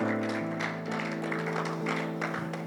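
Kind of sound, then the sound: crowd, people clapping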